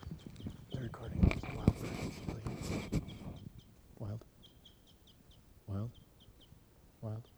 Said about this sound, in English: The flock took off, but two of the birds were captured, two females, and they'll be 754 and 755. Stop. There's a wild bird still here. Stop.